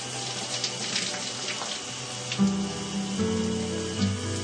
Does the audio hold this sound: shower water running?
yes